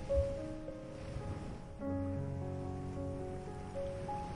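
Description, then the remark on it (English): Soft ocean waves wash gently in a sheltered cove, a steady low rushing swell that rises slightly midway, with sustained calm tones drifting over it and no voices. “Let the waves calm you.”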